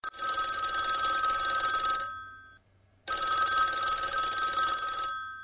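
A telephone bell rings in two long bursts separated by a short pause, loud, with no one speaking, as a call comes in to the Radio Chouchou call-in show.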